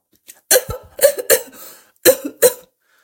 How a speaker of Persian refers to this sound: چند وقت از تو چاره این سرفه ای؟